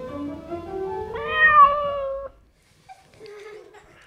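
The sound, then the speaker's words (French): A cat gives one long, drawn-out meow that rises in pitch and lasts about two seconds, then after a short pause a few faint, softer cat sounds follow, as cats play on a lawn. “Pendant ce temps, les chats jouent.”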